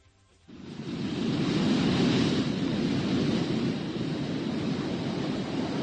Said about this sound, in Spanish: Y es que la crecida del río Miño, su paso por la capital, se ha convertido en todo un espectáculo. La apertura de compuertas en la presa de Belle para aliviar el embalse provoca un auténtico oleaje en Oira